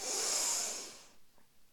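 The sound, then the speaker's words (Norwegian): A deep, steady inhale through the nose, fairly loud, lasting about a second with a hissy, airy rush before trailing off into quiet. “Pust godt inn i nesa.”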